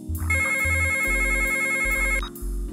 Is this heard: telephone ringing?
yes